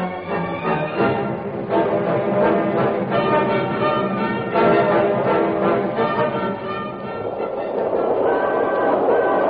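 The Limited passenger train speeds through the darkness at night, a loud, continuous rumble and rattle of wheels on track with a steady roar that swells slightly toward the end, no voices.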